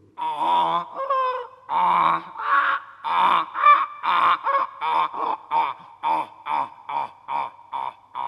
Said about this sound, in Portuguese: Pois enganou-se outra vez. Isto é o zurrar de um burrinho.